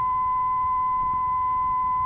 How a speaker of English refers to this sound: All of these signal samples are 1 kilohertz. The first sample is coming directly from the WaveTech signal generator, a 1 kilohertz sine wave.